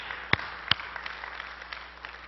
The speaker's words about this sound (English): Praise God. Let's give the Lord a big clap today, huh? Hallelujah.